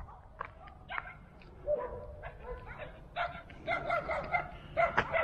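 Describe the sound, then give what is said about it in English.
A pack of dogs barks and yips repeatedly, the barking growing busier and louder toward the end over a low outdoor rumble. “Let's see what these dogs are going to be like.”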